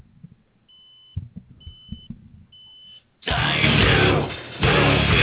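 An electronic timer beeps three times in a steady, evenly spaced pattern of high, thin tones over a low rumble, then a loud roaring burst of engine-like noise takes over.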